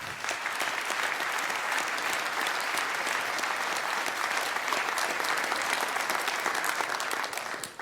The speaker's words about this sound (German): Ich denke, dafür nochmal ein ganz großer Applaus.